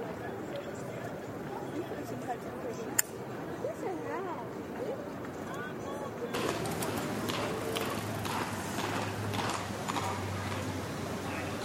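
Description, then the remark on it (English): A carriage horse in Quebec City strikes its right front hoof against a paved sidewalk in a steady, repeated rhythm, over a bed of outdoor street ambience with crowd chatter. “It's a horse hitting its right front hoof against the sidewalk.”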